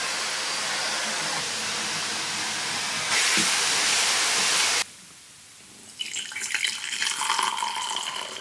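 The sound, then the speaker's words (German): A vacuum cleaner runs with a steady, loud, hissing roar that grows harsher for a stretch, drops abruptly to a muffled hum, then rises into a rougher, fluctuating whine near the end. “ich brauche jetzt erstmal einen Staubsauger, einen Kaffee und dann geht's wieder rückwärts.”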